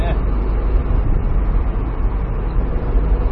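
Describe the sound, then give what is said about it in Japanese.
The engine of a small turbocharged kei car convertible runs steadily with the top open on a cloudy day, a loud, continuous rumble blended with wind and road noise for the whole stretch. “このエンジンの音が軽自動車の終わりにはいい音するでしょ、は い、いいですね、ほんと。”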